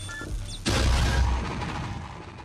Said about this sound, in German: Man sieht aber nicht, was der da genau macht. Also man hört Schüsse, dann fliegt ein Stormtrooper runter.